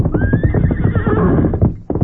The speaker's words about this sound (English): It was less than an hour later at the Lone Ranger's camp when Tonto heard the approach of familiar hoofbeats. Me hear horse come plenty fast. That's Silver.